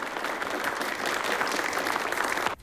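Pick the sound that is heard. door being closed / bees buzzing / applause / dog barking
applause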